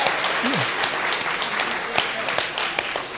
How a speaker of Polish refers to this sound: Tak, właściwie oklaski trwają co najmniej tak 7 do 9 sekund, także nie skracajmy ich. Więc po tym wykładzie, niezależnie od jego jakości, tak, bo różnie może być, można klaskać, ale porządnie.